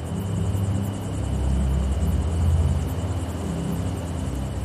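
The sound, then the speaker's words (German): A low, steady rumble of faint thunder from a still-distant, approaching thunderstorm rolls in from far away, swelling slightly and then fading back. No voices are heard. “Von weitem ist ein leiser Donner zu hören.”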